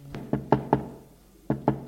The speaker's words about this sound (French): Patron inquiet descend les étages. Et va frapper à la porte de la concierge.